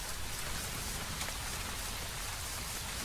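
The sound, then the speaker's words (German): Steady rain falls in a continuous hiss, fairly loud, with drops spattering on a surface throughout and no voices, as people walk home through it. “Dann treten wir den Heimweg durch den Regen an.”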